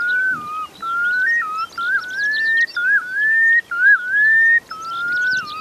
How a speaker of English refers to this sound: The one thing that does give away their presence is the males of these red knots cover a large area with their display flights, and their song is just remarkable.